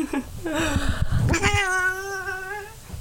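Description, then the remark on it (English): A cat meows, first a wavering, pitch-sliding cry and then a long, steady, drawn-out yowl that holds for over a second. No one is talking. “Cats, ladies and gentlemen, and everybody else in between. Cats.”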